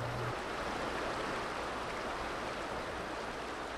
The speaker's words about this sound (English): the Buffalo River surges through a bluff canyon at Pruitt Ranger Station after heavy early spring rains. Its signature turquoise waters are crystal clear, and the river teems with life this early spring morning.